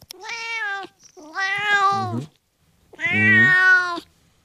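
A cat meows three times into a microphone, each call long, drawn-out and tonal, separated by short pauses, with the second and third meows sounding strained and a little rough toward their ends.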